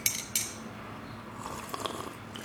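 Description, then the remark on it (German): Two sharp ceramic clinks of a cup, then a soft, airy slurp as someone sips coffee, with faint rustling, all fairly quiet and without any talking. “So, ich trinke einen Schluck Kaffee.”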